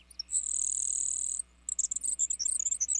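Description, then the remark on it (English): A grasshopper sparrow sings a thin, high, insect-like buzz that holds for about a second, followed by a quick sputter of sharp, high chips. It sounds clear, with no talking. “Other birds are so buzzy that they're easily mistaken for insects, like this grasshopper sparrow.”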